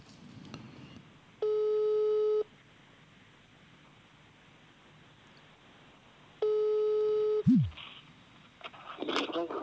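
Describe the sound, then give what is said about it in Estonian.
A telephone ringing tone sounds twice, each a steady, buzzy one-second tone separated by a long quiet gap, followed by a brief low swooping sound and some faint noise at the end, as a radio host places a phone call during a live broadcast. “Aga me teeme korra ühe telefoni kõnesid ühele vennale”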